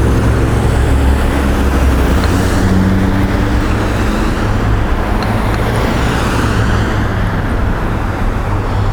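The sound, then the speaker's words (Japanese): A large classic car's deep, throaty engine rumbles loudly, holding steady for several seconds amid general roadway noise, with no one speaking. “でっかい車だなあれ、クラシックカーだな。”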